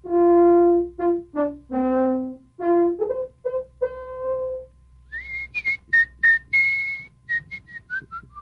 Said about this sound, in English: I told you, Mr. Henderson, he could whistle between his teeth. Mr. Levant? What's it from? It's the New World Symphony by Dvořák. Yes, the New World Symphony of Dvořák.